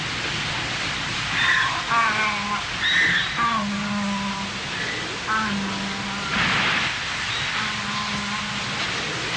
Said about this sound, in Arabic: انظروا إلى السماء بخشية، كيف ترسل هذه الزخات الغاضبة من المطر، ومنها سيتشكل بحر متلاطم يبتلع الكافرين. ما الذي يجري؟ مطر غزير. ما هذا؟